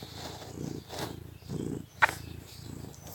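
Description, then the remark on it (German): A cat named Kira purrs, a low rumbling that swells and eases in steady breathing cycles, with one brief sharp click partway through and no voices. “Nun kommt meine Katze wieder ins Bild.”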